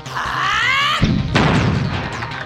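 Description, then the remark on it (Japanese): A rising whooshing whine builds for about a second, then the heavy booming impact of a powerful blow, like dynamite exploding, hits, followed by a second crashing blast with rumbling, debris-like noise trailing off. “ダイナマイトが爆発するような打撃、人間に可能な行動ではない。”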